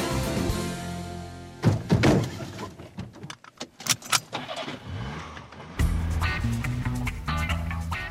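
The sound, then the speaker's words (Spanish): A car door is slammed shut with excessive force several times, heavy thunks in uneven bursts, with a low engine hum running before and after the slams and no talking. “Le doy unos portazos, la verdad es que sí.”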